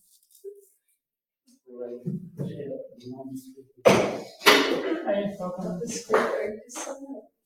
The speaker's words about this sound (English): Right, just changing my seat chair.